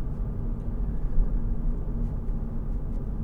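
A steady low rumble of road and engine noise inside a small four-door commuter car while driving, constant and droning with no voices, the sound concentrated in the deep bass with faint hiss above.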